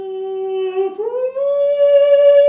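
A dog lets out one long, loud howl close by, its tone dipping briefly before sliding up to a higher, steady pitch that holds to the end. No one talks.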